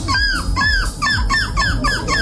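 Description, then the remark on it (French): A person at a seagull-cry contest mimics a seagull's cry before a jury, with a quick run of about six loud, squealing calls that rise and fall in pitch, delivered in a steady, rapid rhythm. “Chaque participant, déguisé en mouette ou non, doit faire leur plus beau cri devant un jury.”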